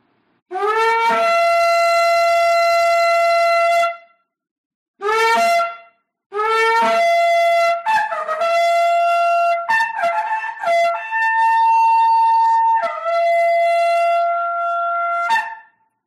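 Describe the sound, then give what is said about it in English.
A shofar sounds a long, brassy blast, then a brief short one, followed by an extended call that wavers and breaks between pitches before ending. No one speaks over it. “Well, before I start talking about the message, I want to blow the shofar and do the Avinu prayer.”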